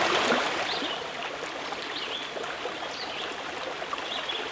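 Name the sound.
flowing river water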